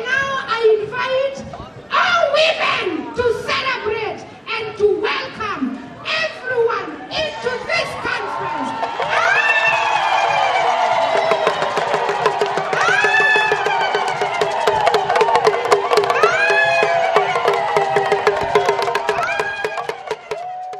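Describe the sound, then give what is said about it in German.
A crowd of African women gives a loud welcoming greeting at the opening of the 7th World Social Forum: rhythmic, clipped shouted calls, then a long stretch of high, wavering, rising cries sustained over a continuous crowd din. “die unverwechselbare, eindrucksvolle Begrüßung durch die afrikanischen Frauen vorführen”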